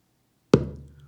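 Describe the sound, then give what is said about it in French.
A single low drum stroke made with all the fingers of the right hand held together on the center of the skin: a sharp thump followed by a deep, booming tone that slowly fades out after a moment of silence. “Par exemple, si l'on frappe au centre de la peau avec tous les doigts réunis de la main droite, on obtient un son grave.”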